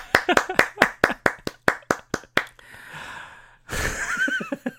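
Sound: applause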